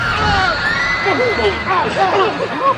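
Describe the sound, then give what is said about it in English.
A concert audience riots about three minutes into a dissonant piece, screaming and shouting at once, many voices rising and falling in overlapping wails and yells, loud and continuous throughout. “Well, after about 3 minutes, they rioted.”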